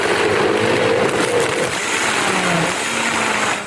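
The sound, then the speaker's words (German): A high-performance blender, full with salad and cucumber, runs at full power, a loud steady whirring roar with a motor hum that wavers and dips slightly in pitch, continuing without pause for several seconds. “Nee, hey, das ist ein Hochleistungsmixer.”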